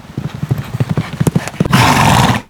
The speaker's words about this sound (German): Marquardt will sich das näher ansehen und galoppiert dorthin.